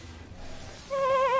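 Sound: sheep bleating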